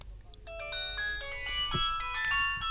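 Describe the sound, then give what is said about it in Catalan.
A phone rings nearby with a bright, melodic electronic ringtone on an outgoing call to a line where people on duty read a poem, a sustained chiming tune that starts after a brief quiet moment and plays on steadily, with no talking. “I sona, aquí ben a prop, a veure qui respondrà.”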